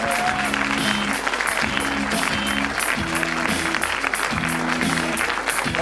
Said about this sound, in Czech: Prvním hostem, který nás právě teďka poctí svou návštěvou, je herečka Lenka Loubalová. Potlesk, prosíme, děkujeme.